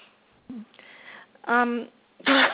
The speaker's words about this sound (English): The cough has to go away.